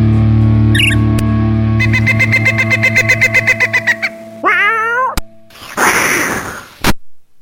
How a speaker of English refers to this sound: What kind of fake cat noise is that?